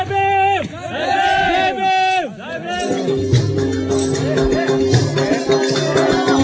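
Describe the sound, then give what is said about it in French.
A lively crowd at a festival on the small square of a Dalit village, in the untouchables' quarter, dimly lit by oil lamps, with voices shouting and chanting together in rising, wavering calls at first, then settling into a dense, steady babble of many people over a low rhythmic pulse. “sur une place comme ça faiblement éclairée avec des lampes à pétrole et toute une petite foule on nous a préparé une fête, un spectacle.”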